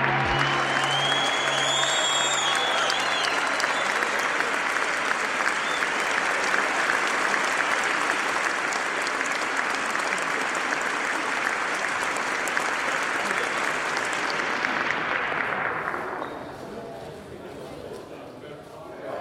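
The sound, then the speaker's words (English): An audience claps loudly and steadily after a speaker's closing words, a dense, unbroken wash of applause lasting about fifteen seconds before it quickly fades out. “Applause.”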